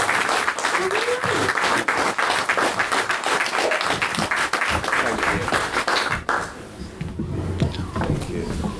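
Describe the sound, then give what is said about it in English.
An audience in Fordingbridge breaks into loud, sustained applause as two guests are introduced on stage for a talk about Rogue One, dense overlapping claps filling the first six seconds, then thinning and fading into scattered claps and murmuring. “So can I have a big round of applause, please?”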